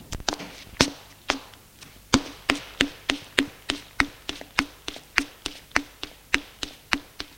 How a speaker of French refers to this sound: Sort et descend les escaliers.